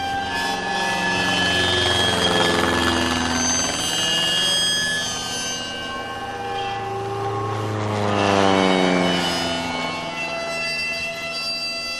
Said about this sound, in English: Chester Wilmot happened to be in Townsville and recorded an enemy plane dropping its bombs and being shot by American fighters. This recording is from the ABC's archives, and like the planes you can hear, it's precious now because it's so rare.